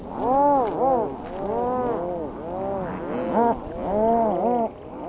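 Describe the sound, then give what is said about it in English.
A nesting colony of about 72,000 adult rhinoceros auklets on an island calling, with many overlapping moaning, rising-and-falling cries layered into a steady, fairly loud chorus throughout, and no one talking. “The island harbors one of the largest nesting colonies of rhinoceros auklets in the world, numbering about 72,000 adult birds.”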